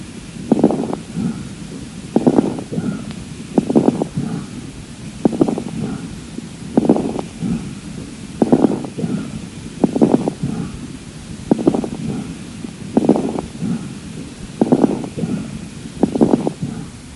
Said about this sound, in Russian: Таким образом, жесткое дыхание характеризуется несвойственным нормальному везикулярному дыханию равенством продолжительности фаз вдоха и выдоха, а от бронхиального дыхания отличается более мягким тембром.